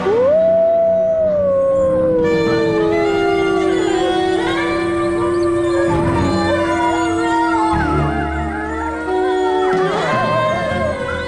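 Several wolves howl together in a loud chorus, long sliding tones overlapping and rising and falling over about eleven seconds, with no one speaking.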